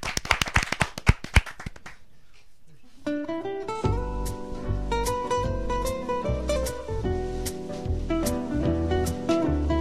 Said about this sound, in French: Eh bah écoute, je crois qu'on peut faire un tonnerre d'applaudissements